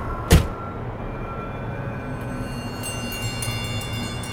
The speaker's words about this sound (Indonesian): Setengah berlari, akhirnya aku tiba di mobil dan bergegas menyalakan mesin.